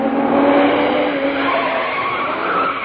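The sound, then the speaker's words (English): A voice imitates an approaching car with a loud, sustained engine-like whine that squeals and edges slightly upward in pitch for about three seconds, with no other sounds around it. “Just for that, I shall do an impersonation of a car approaching.”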